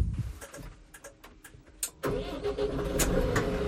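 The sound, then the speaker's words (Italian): A Rex 4 tractor engine, started from off, cranks with a few sharp clicks and sputters, then catches about halfway through and settles into a steady, loud idle rumble. “Ecco, questo è il Rex 4 in funzione, si parla tranquillamente, si sente il rumore del motore, ma non è eccessivo.”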